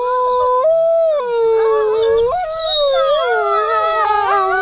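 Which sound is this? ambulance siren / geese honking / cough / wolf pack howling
wolf pack howling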